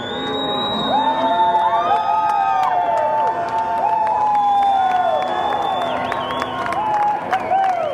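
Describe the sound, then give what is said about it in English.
A crowd of supporters cheers loudly and continuously as cowboys on horseback drive Bundy cattle back to the ranch, with overlapping whoops and shouted voices rising and falling across the whole stretch, full with no pauses. “A video posted to YouTube showed cowboys sitting tall in the saddle, driving Bundy cattle back to the ranch while supporters cheered.”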